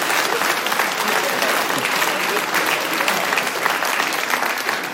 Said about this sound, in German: Bravo, das ist einmal ein Applaus wert für Müllerbauern.